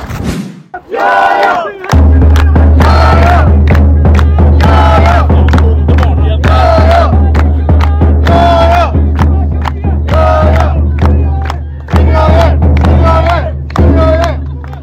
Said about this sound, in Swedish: Bra drag med trumpeten också. Ja, det är som att vara på konsert. Ja, verkligen. Dunderstämning på Syrianska läktaren.